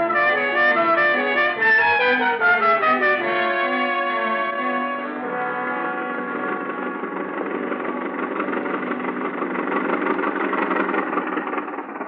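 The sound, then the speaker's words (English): A car engine runs steadily while the car is driven, with no voices. Its tone shifts and stutters in the first few seconds, then settles into a constant, fairly loud mid-pitched drone with a rough vibrating texture. “The car's just around the corner.”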